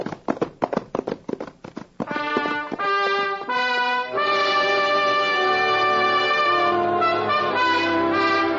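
Horse hooves gallop away toward town as Little Beaver rides off on his pinto and Thunder takes after him, a quick, steady rhythm for about two seconds, growing slightly fainter, before a loud burst of orchestral music swells in and takes over.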